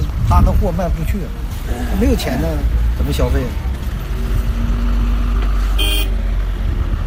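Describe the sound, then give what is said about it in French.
Heavy trucks crossing a border a few at a time rumble steadily while voices talk in the first half, then a single short, bright horn toot cuts through near the end. “Les camions passent la frontière au compte-gouttes.”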